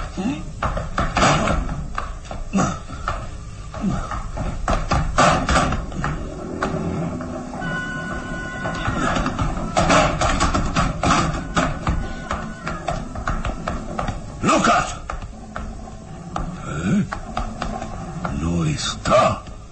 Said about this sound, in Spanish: Eso ya lo veremos. Voy a forzar esta maldita puerta.